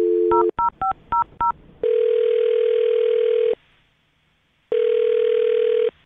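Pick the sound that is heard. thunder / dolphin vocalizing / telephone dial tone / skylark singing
telephone dial tone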